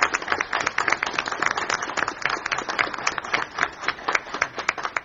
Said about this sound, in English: I want to show respect for county executive Scott Walker, but I don't have that pleasure to do that this morning. He's governor-elect. All right. Well, I think we need to give him a round of applause.